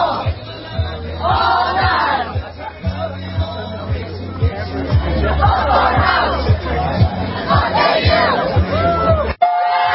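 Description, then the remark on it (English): A large crowd of thousands outside a frat house, waiting for Donald Trump, cheers and chants loudly in swelling waves, with rhythmic shouts rising over a dense roar of voices before it cuts off abruptly near the end. “Trump signs everywhere, the cheering, the applause, the love, the patriotism.”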